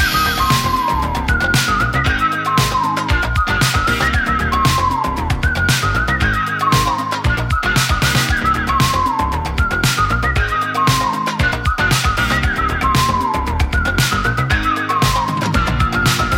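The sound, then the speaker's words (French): A bright whistled melody rides over a driving hip-hop beat with punchy drums and a steady electronic groove, the tune repeating in short looping phrases at full volume with no voices. “Perso, c'est comme ça que j'ai appris à siffler.”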